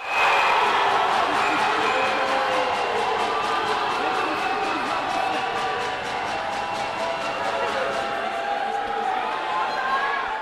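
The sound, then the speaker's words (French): A large crowd of Orléans ice hockey supporters applauds and cheers continuously during an ice hockey match, a dense wash of clapping and shouting at a steady, loud level throughout. “Malgré les applaudissements des fiers supporters orléanais, le Ogly avait décidé de prendre le taureau par les cornes pour ce dernier acte.”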